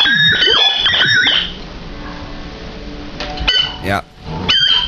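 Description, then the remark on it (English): A squeezy rubber chicken toy, choked and then let go, lets out loud, wavering squawks: a long strangled wail at the start, a quieter hissing pause, then a few more shrill squawks near the end. “It's a squeezy chicken that makes noises, and basically what you do is you kind of choke this chicken, and when you let go, it makes this noise.”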